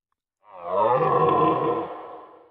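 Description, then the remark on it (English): A single deep, bellowing deer call rises quickly and holds for about two seconds before trailing off, loud with no other sounds around it. “There was a deer.”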